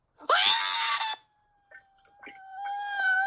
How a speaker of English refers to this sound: flies off the boat, screaming. He flies behind the boat into two pipes, making dents in both of them.